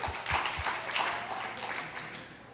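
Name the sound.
audience hand clapping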